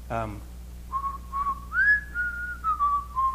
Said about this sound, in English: And a lot of times I burst out in whistling. Because she can't whistle.